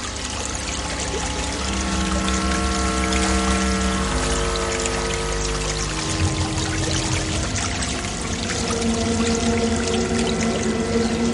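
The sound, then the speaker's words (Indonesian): Water pours steadily from a spout behind a small hut in a continuous, splashing stream, loud, with a gurgling tone that shifts slightly as it runs. No one speaks. “Darko dan Louis segera meninggalkan pancuran di belakang kubuk kecil itu.”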